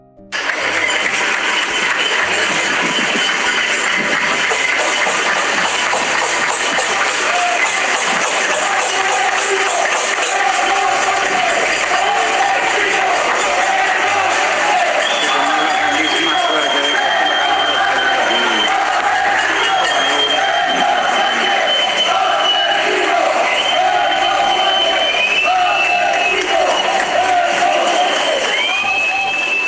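A cacerolada pot-banging protest: a dense, loud, unbroken clatter of metal pots with a crowd shouting and chanting over it, including shouts of "Pedro Sánchez asesino", for the full half minute, without pauses.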